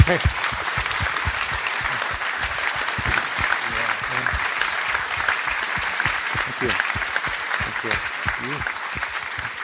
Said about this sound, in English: I'd like to do something that very rarely happens in this room, and that is a round of applause for